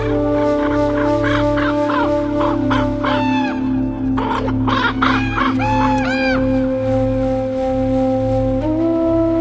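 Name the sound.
birds calling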